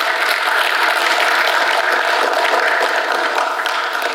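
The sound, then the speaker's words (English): A church audience claps for the worship team in sustained, dense applause, a steady wash of many hands at an even, fairly loud level for about four seconds, with no voices over it. “Give another round of applause to the worship team, please.”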